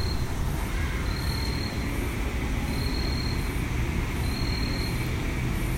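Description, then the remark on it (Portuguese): Wind rushes steadily through the leaves of a tree in a continuous, even rustling hiss with a low rumble underneath, while a cricket's faint high-pitched chirps repeat at regular intervals. “Sons de vento nas folhas de uma árvore, o canto de um grilo, crianças brincando ao fundo e algumas motos a passar por ruas laterais.”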